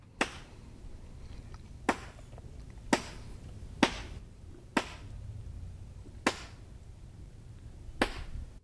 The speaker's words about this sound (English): I mean, there's no splashing associated with that, so I'm assuming that's not just like a fin or a tail slapping on water. What makes that kind of snapping or slapping sound? I have no idea. That's a sound that Atlantic sturgeon are making